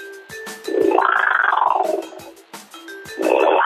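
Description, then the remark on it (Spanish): A rough, growling roar imitating a jaguar, blown through a handheld clay wind instrument like a chirimía, at a crafts market. There is a long rasping swell, a brief pause with clicks, then a second growl starting. “que nos ofrece siempre el ruido del jaguar o del águila.”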